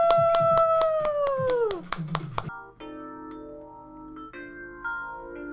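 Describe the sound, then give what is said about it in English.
Quick, steady hand claps from a group giving themselves a round of applause after a cool-down exercise ring out for about two seconds while a high voice-like tone slides downward over them, then the clapping stops and soft sustained musical tones take over. “Let's give ourselves a big round of applause.”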